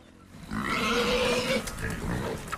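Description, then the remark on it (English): Free-range boars on a South African farm grunt and squeal as they devour fallen fruit and vegetables, a loud, continuous rumbling of snorts and grunts that swells after a quiet start and carries on steadily. “Boars devour fallen fruit and vegetables on Brightside Farm.”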